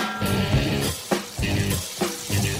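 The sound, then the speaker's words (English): A short theme jingle for The Frying Pan segment on WGN radio, a Pete Zimmerman special, plays: sustained musical tones over a steady, punchy beat, with a bright hissing, sizzling texture running throughout. No one speaks. “It's another Pete Zimmerman special, the frying pan theme song.”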